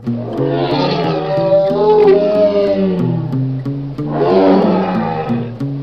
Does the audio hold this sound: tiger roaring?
yes